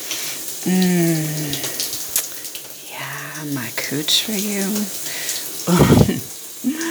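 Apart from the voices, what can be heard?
shower water running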